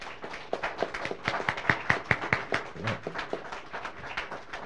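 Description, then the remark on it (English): A worship service audience breaks into steady applause for a young boy after a quiz. Many overlapping claps form a dense, continuous patter that holds for several seconds at moderate loudness. “We'll give him a round of applause.”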